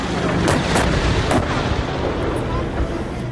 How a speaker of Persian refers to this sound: این در حالی است که شهروندان آذری ساکن در مناطق مرزی ایران از آغاز درگیری‌ها شاهد به پرواز درآمدن جنگنده‌ها و شنیده شدن صدای شلیک توپخانه‌های سنگین در دو سوی این درگیری‌ها بودند.